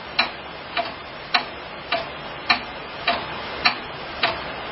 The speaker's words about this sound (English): Hear that clock? Wait, here's the old theme when they had no money in their budget. Ready? Here it is.